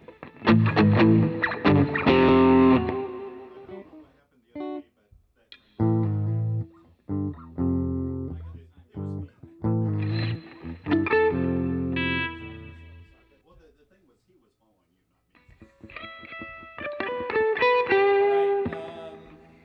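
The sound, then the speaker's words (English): Loud electric guitar with heavy distortion plays gritty chord bursts separated by short pauses and a longer gap, then resumes with bright, sustained crunchy strums. “You're putting distortion on the chorus, right?”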